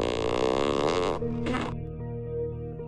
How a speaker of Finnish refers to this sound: Urhon perästä purkautui mahtava pieru. Urho haukahti ja nousi äkkiä jaloilleen.